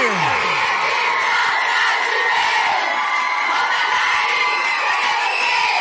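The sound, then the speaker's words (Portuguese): A large crowd shouts and cheers loudly and continuously at a live band show, a dense roar of many voices with high whoops rising above it, sustained for several seconds. “Cadê o grito da galera aí?”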